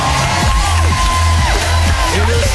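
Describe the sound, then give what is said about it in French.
A loud, dense stadium crowd roars and cheers continuously, with scattered whoops and yells rising above the steady wash of voices, played as a sound effect on the radio station Énergie after a listener wins a contest. “Et le stade t'applaudit.”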